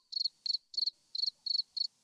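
A cricket sound effect played from a soundboard: crickets chirp in a steady rhythm, six short trilled pulses spaced evenly over two seconds, clear with nothing else in the background.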